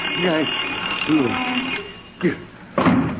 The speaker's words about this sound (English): that was just the alarm on your clock. It happened to go off. Oh, gee, I started to doze off there for a minute, and when I heard the alarm, I thought it was morning already.